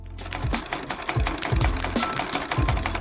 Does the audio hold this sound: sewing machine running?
yes